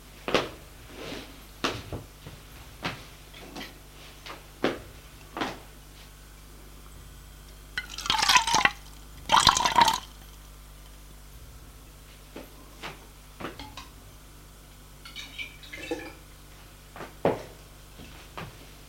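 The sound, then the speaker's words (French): Apple juice is poured into a glass in a living room in two short, hissing bursts, surrounded by scattered clicks, taps and soft knocks of cups and cupboards being handled. No one speaks. “Et va au séjour se servir à boire. Un jus de pomme.”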